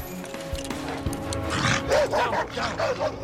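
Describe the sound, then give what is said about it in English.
A junkyard dog chasing a police officer barks in a quick run of five or six sharp, loud barks in the second half, following a stretch of rumbling background noise. “Junkyard dog pursues the big cop.”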